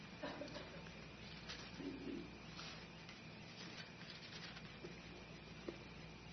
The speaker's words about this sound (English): I love to hear those Bible pages turning. That is a blessing.